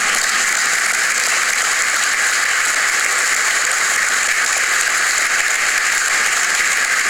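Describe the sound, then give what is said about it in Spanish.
A crowd applauds steadily for several seconds, a loud, dense wash of many hands clapping at once with no individual claps standing out and no voices heard over it. “Así que bueno, agradecerles a todos, no quiero hacerlo muy extenso, agradecer a todas las disciplinas, al grupo de mozos, brindar un gran aplauso a los que estén allá.”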